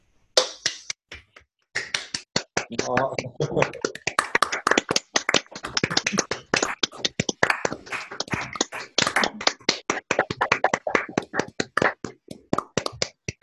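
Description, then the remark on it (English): A crowd claps steadily for the teachers, a dense patter of many hands that starts with a few scattered claps, swells after a brief pause, and keeps going as sustained applause. “It's now time to applaud the teachers.”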